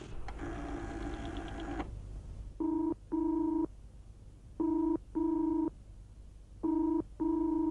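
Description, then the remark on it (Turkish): A telephone is dialed, a buzzing tone for about two seconds, then three double-burst rings repeat at an even pace, steady in pitch and fairly loud. Nobody speaks. “Kime telefon ediyorsun?”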